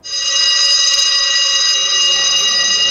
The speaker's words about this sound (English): A fire alarm. So what would we do? What does that mean? No, don't leg it. It's in an orderly manner. Exit the building.